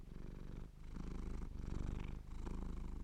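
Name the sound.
cat purring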